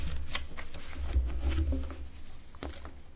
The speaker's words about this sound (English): Channeling Roshi, looking through my papers.